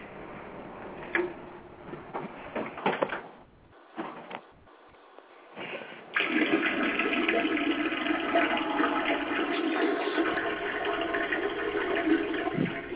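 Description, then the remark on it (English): Faint trickling of someone urinating into a toilet and small clattering sounds for a few seconds, then the toilet flushes with a loud, steady rush of water that carries on to the end. No one speaks. “Yeah, fucking waterfalls and shit.”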